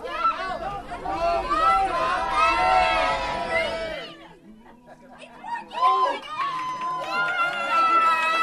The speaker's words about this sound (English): Once we're at the North Pole, the train slows, but something isn't right. The train doesn't stop. Just like the movie, the kids leap from their seats and begin shouting.